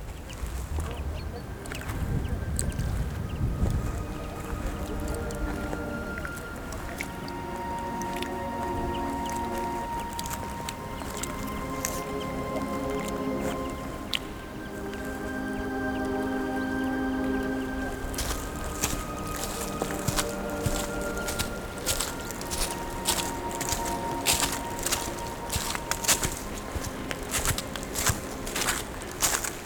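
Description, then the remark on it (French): Footsteps crunch and squelch along a wet path full of dead leaves on a descent, the steps growing sharper and more regular toward the end, with faint voices of distant hikers and outdoor ambience underneath. “À nouveau, des ruisseaux qui s'écoulent, des chemins remplis de feuilles mortes, des pistes”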